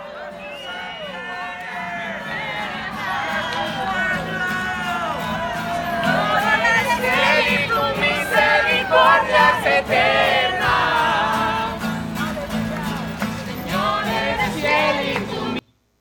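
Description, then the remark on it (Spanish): A dense crowd in a video shouts and cheers continuously, many overlapping voices rising and falling in excited, high-pitched cries, growing louder midway and holding steady until an abrupt cutoff. “Que se oiga bien desde el principio, había un griterío fabuloso.”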